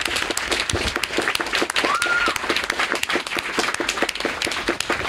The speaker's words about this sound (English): I want much everybody, like everybody here, especially the allies, especially if you've never done sex work, really loud round of applause for everybody who has ever done sex work right now.